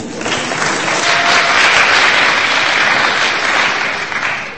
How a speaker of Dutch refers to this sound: Nice. Voor hem ook een applaus.